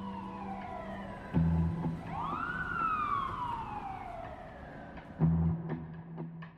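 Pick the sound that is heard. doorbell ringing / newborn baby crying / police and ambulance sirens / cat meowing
police and ambulance sirens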